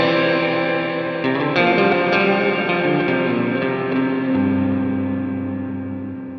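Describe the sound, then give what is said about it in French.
Guitar chords ring out through a reverb effect with its length set long, drenched in a long, cavernous reverb like a church, the sustained wash of sound slowly fading away at the end. “Comme une chambre, ou plutôt comme une église.”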